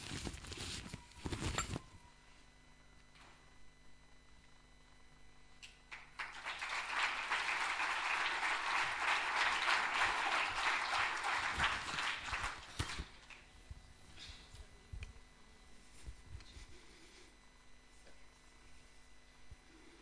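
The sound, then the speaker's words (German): A burst of applause swells up and holds steady for several seconds, a dense crowd of hands clapping, then tapers off into a few scattered claps and quiet background noise. “Klatscht.”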